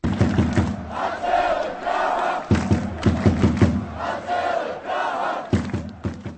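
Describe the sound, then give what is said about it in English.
A large crowd of Czech ice hockey fans chants in unison to cheer the Prague-based club Lev Praha during its Continental Hockey League debut, loud rhythmic phrases repeating roughly every second and a half, with sharp drum-like thumps marking the beat beneath the massed voices. “Czech fans tried out various chants to cheer hockey club Lev Praha on Thursday during the Prague-based team's debut in the Continental Hockey League.”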